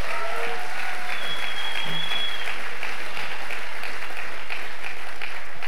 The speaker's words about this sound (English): you give him a big clap, right?